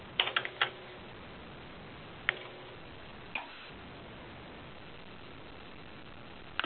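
Sparse typing on a computer keyboard: a quick burst of key clicks, then scattered single taps after long pauses, faint and distant over a steady hiss, with no one talking.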